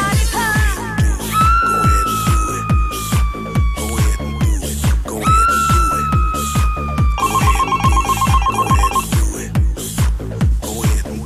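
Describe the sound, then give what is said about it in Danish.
A telephone rings loudly with a melodic, electronic ringtone, its sliding tones and fast trilling bursts repeating over a steady, thumping rhythmic beat; no one speaks. “Der er nogen, der ringer her.”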